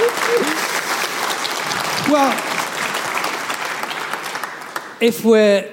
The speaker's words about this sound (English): if we are going to give some applause, can we give some to my superb interlocutor tonight? Absolutely inspired, the next generation of historians. Give her a big hand.